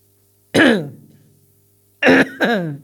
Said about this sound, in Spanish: Cuídate esa tos. Es que me sale, no sé por qué.